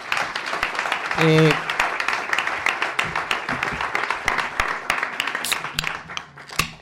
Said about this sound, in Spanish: Aplausos, por favor.